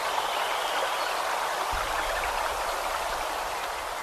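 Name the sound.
creek water flowing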